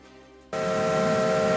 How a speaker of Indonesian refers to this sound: I like train. Saya suka kereta, kata seorang anak laki-laki yang sedang menatap ke lokomotif besar itu. Strasburg Railroad membuat seakan-akan suasana masa lalu hidup kembali.